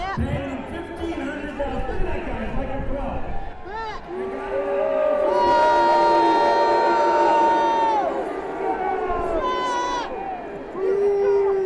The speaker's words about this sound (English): Trump's assertion that the protesters at the rally were paid to be there by the Democratic National Committee riled up the crowd. Confrontations and loud shouts between supporters and protesters ensued.